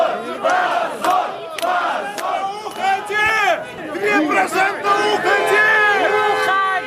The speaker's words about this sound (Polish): Ukradziono nam nasze głosy, mówią ludzie gromadzący się na ulicach i placach białoruskich miast i skandują, że to hańba.